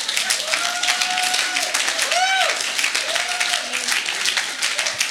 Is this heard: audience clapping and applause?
yes